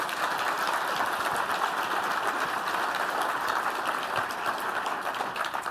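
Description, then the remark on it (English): An audience applauds a software demo steadily, a dense, even wash of many hands clapping at once that holds at a constant loudness for several seconds, with no voices over it. “But you all clapped, so you liked it just as much.”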